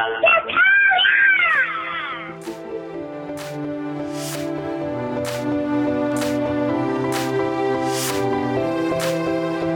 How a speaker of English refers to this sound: Whatever it is they're going to do, they're going to also be singing it, to the heavens and screaming it at each other.